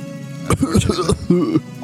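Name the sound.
voice imitating coughing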